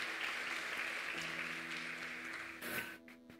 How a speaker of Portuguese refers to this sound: Você pode aplaudir a Ele nessa manhã? Porque é Ele que ensinou isso.